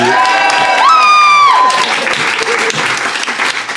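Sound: audience applause and cheering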